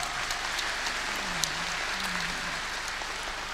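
An audience applauds steadily for a few seconds, a dense, even wash of many hands clapping that holds its level from start to finish with no one speaking.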